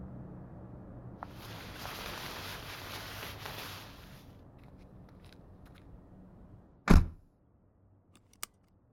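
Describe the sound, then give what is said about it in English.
The door of an old 1966 Mustang GT is worked open with a few seconds of creaky, rattling mechanical noise, then shuts with one loud, solid thud, followed by a faint click. Nobody speaks. “Yes, I'm opening the door for you.”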